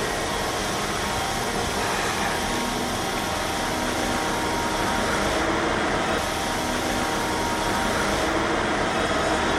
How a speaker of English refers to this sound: And there's a train that stopped here from Southern Pacific. I guess they don't want to sweep through, or maybe it's a disposal train. I'm not sure.